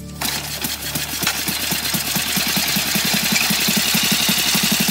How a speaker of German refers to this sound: Und so entsteht das weltweit erste motorisierte Fahrzeug mit Verbrennermotor. Eine Art Urvorbild aller Harley-Davidsons dieser Welt, das erste Motorrad.